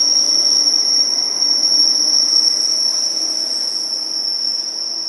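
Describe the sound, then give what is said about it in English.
A steady, piercing high-pitched brake squeal rings out over a low rumbling rail hum, holding nearly constant for five seconds as an ICE train brakes. “He seems to have its brakes on”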